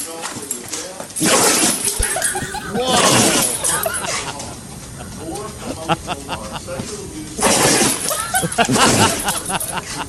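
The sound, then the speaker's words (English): A Great Pyrenees dog lets out a series of loud, sharp, breathy sneezes, about four explosive bursts spaced unevenly, while Dr. Phil keeps talking on a television underneath. “So this is a Grand Pyrenees sneezing.”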